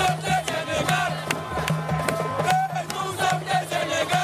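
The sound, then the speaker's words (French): A jubilant crowd of about a thousand Senegal football supporters cheers and chants in unison outside Dakar airport at 1 a.m. as the bus of the CAN-winning Senegal team passes, a dense wall of voices with rhythmic sharp claps or drum hits punctuating it, loud throughout. “Il est 1h du matin quand le bus des Lions passe enfin, le temps de quelques secondes, devant une foule de supporters en liesse.”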